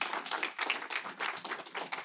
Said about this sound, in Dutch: Ik wil alle mensen die vandaag hebben meegedaan, ook de mensen die hebben geluisterd, de mensen die vandaag hun stem hebben laten horen, geef jezelf voor de laatste keer nog een groot applaus.